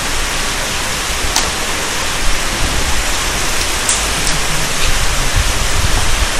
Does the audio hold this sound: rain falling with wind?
yes